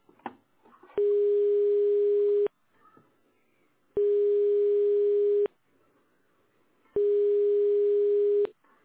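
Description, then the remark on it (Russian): A telephone ringback tone sounds while a call is being placed: three long, steady, mid-pitched buzzing tones, each about a second and a half, separated by equal pauses, with no talking. The called subscriber has not yet answered. “Продолжаю дозвон. Пока что абонент не отвечает.”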